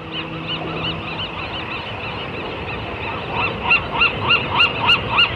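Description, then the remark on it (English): A dense seabird colony on the Farallon Islands, a national wildlife refuge 30 miles away, squawks and honks continuously, with a low, steady foghorn tone from the Golden Gate Bridge, San Francisco, in the first second or so; toward the end, louder honking calls repeat in a quick rhythm. Recorded live in 1987 with microphones at both locations. “So it's a live duet between a national wildlife refuge, the Farallon Islands, that's a seabird colony, and the Golden Gate Bridge with its foghorns and mechanical structure.”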